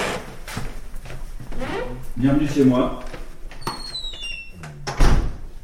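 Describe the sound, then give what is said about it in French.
The creaky door of a second-floor home creaks open with a couple of high, squealing whines, then shuts with a dull thud near the end. A man speaks briefly over the movement. “J'ai la porte qui grince.”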